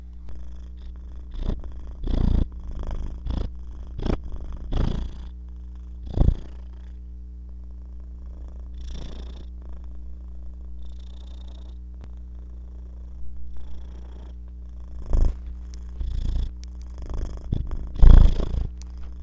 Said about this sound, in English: Besides meowing, my favorite noise that Simba makes is his purring. Listen to this.